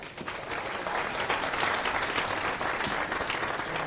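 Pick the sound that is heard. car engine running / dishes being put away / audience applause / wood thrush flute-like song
audience applause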